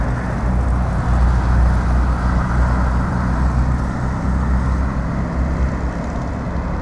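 A steady, dense wash of road traffic noise from a traffic jam, engines idling and rumbling together in a continuous low drone, with no distinct passing vehicles.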